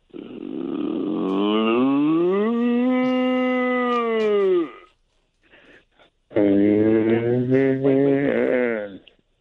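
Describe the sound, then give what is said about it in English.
A person imitates a moose mating call with two long, drawn-out groaning bellows, loud, separated by a brief pause, the second call wavering and slightly shorter. “Here's the moose noise.”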